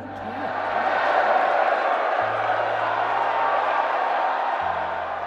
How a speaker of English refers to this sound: The crowd erupted, and with word trickling outward, Data Law stock was skyrocketing,